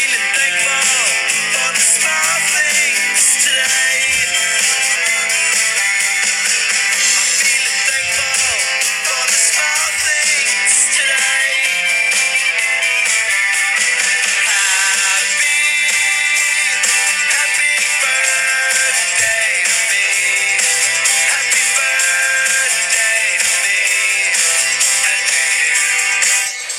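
A tinny melody plays continuously from a phone held up to a microphone, thin and bright with almost no bass, steady in loudness for nearly half a minute with no voices over it.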